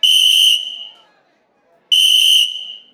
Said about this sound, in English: And right then, the cinder block blew the whistle again.